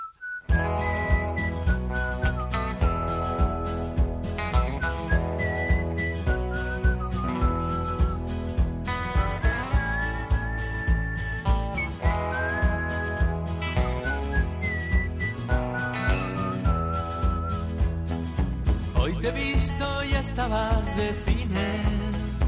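A person whistles a bright, wandering melody over a full, steady musical accompaniment with a thumping beat; the whistle rides clearly above the band throughout.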